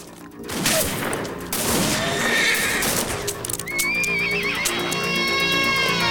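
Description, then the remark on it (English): A loud burst of gunfire as regulators shoot at a sheriff's men, several sharp shots in quick succession, mixed with horses whinnying and neighing amid a chaotic, busy scene; no one speaks. “The regulators shoot at the sheriff's men.”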